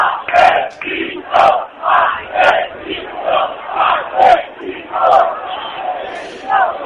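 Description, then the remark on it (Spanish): A protest crowd at a demonstration in the Plaza de Usera, called also by the Federación Regional de Asociaciones de Vecinos, shouts a loud, rhythmic chant, many voices punching out short bursts in a steady beat, about ten in seven seconds, with no single voice standing out. “Y vamos a ver si podemos escuchar esos gritos de la manifestación.”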